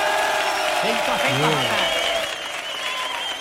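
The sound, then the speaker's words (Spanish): A studio audience applauds and cheers loudly in a steady, dense wash of clapping, with whoops and shouting voices rising through it for a few seconds. “Hoy tenemos un público de 5 Jotas que suena así de fuerte.”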